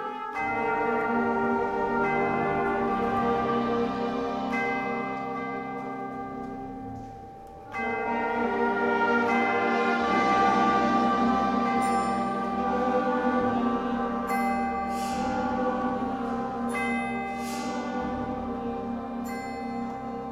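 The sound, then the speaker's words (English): Bells toll twelve slow, steady strikes over sustained orchestral tones after a brief pause in the music as the flutes drop out, each stroke ringing out clearly and fairly loud, with no voices. “The bells ring 12 times, one for each year she lived.”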